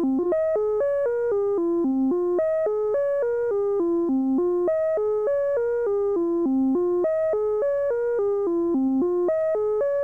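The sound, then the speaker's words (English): An electronic synthesizer sequence, controlled by an external sine-wave oscillator, steps through a quick sequence of notes that climb and fall in a smooth, repeating wave-like contour, steady and even in rhythm with no voices. “Or with an external oscillator, say a sine wave.”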